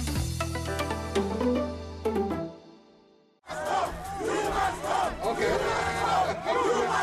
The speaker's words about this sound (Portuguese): O som que se ouve retrata o momento em que o presidente sul-africano Cyril Ramaphosa foi vaiado pela classe média quando se preparava para proferir um discurso nas comemorações do Dia Mundial dos Trabalhadores.